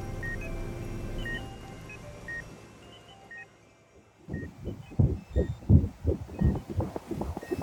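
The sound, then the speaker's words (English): A strong, rapid heartbeat heard on an ultrasound thumps in a steady rhythm, loud, following a few seconds of low electronic hum with faint intermittent beeps. No one speaks. “That's good news, right? A strong heartbeat?”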